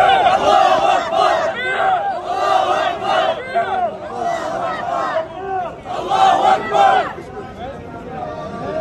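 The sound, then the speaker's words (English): A large crowd of pro-Palestinian activists shouts an 'Allahu Akbar' chant at Orthodox Jews praying in Teaneck, New York, many voices rising together in loud, repeated bursts with brief dips between, continuous throughout. “One group praying, one group shouting Allahu Akbar.”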